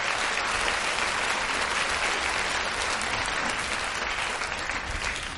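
An audience applauds the Daejeon joint choir steadily. It is a dense, even wash of many hands clapping that holds loud for the full five seconds and eases slightly near the end, with no voices on top.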